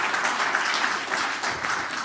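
An audience applauds steadily, a dense, even wash of many hands clapping at a moderate level, with no voices rising above it.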